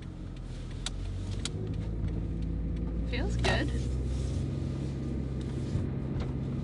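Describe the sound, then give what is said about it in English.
A Toyota Prius hybrid car's motor runs steadily with a low, continuous hum heard from inside the cabin as the car is driven, a brief rising whine midway, and a few faint clicks and soft, indistinct voices. “You put a key in? The motor starts. But the car's still on.”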